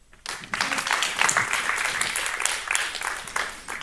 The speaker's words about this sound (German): Also, herzlichen Applaus für Schneider und für seinen Vortrag und ja, habt Spaß.